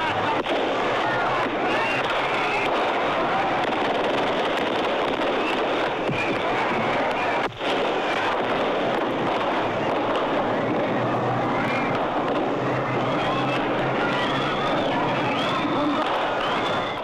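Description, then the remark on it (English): Gunfire and explosions crackle through a dense, roaring crowd at a military parade near Cairo, Egypt, on October 6th, as Egyptian President Anwar Sadat is assassinated, with shouting voices and chaotic noise sustained loudly throughout and one sharp bang standing out midway. “that a man known as a peacemaker in his later years would die in a hail of shrapnel and gunfire.”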